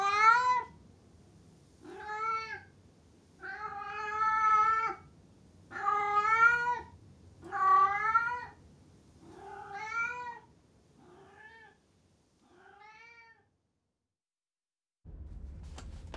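A cat meows insistently about eight times in a row, loud at first, with the later cries growing shorter and fainter, followed by a brief rustle at the end.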